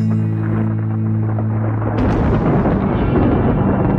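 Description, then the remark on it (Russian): Thunder rumbles loudly and continuously, a deep low roll that swells with a sharper crack about halfway through, then keeps rolling heavily to the end. No voices. “Докатился гром до стекол.”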